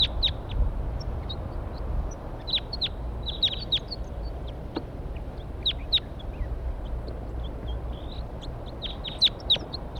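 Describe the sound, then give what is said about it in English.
Several wild birds perched in a pine tree trade sharp, high calls back and forth, scattered bursts of chirps answering one another over a steady low outdoor rumble. “Four, three calls and response.”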